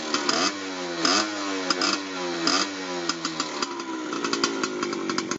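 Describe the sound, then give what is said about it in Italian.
A small motorcycle engine, a 12-year-old boy's racing motorcycle, revs in quick, repeated bursts, its pitch swooping up and down, then settles into a steady high-pitched buzz. Loud, with no voices. “Forse per questo, quando il figlio gli chiede una moto per correre, fa in modo di fargliela avere.”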